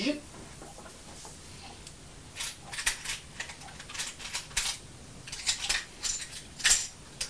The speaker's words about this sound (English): Zip. Oh, it's given me some pennies out. Right, let's count them.